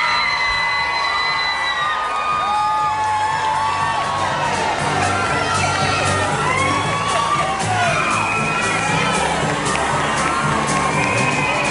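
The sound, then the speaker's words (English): A large crowd greeting Prince Charles and Camilla Parker Bowles on their 2005 wedding day at Windsor cheers loudly and steadily, with many high-pitched whoops and shouts rising above the continuous roar of voices throughout. “Well, as you can hear, the couple were greeted by large crowds, many of them whooping, and accompanied by Prince William and Prince Harry.”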